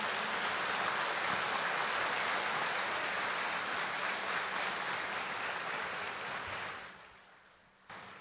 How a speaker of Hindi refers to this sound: हाँ, बहुत अच्छी तरह से ताली बजाएं।